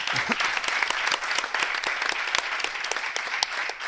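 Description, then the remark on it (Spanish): Steady audience applause fills the room, many hands clapping in a dense, continuous patter with sharp individual claps standing out, fairly close and sustained throughout. “pues bueno, para que se note que estamos aquí en el Hotel Ava, por favor, amigos, vamos a aplaudir, ¿no?”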